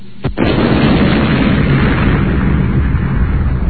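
explosion sound effect

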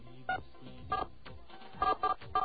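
telephone keypad touch-tone dialing

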